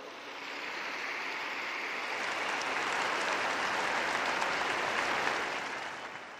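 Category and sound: crowd, crowd applause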